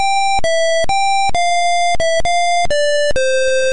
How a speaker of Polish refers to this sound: Muzyka mnie porywa w tej grze. Jest to dźwięk jednobitowy.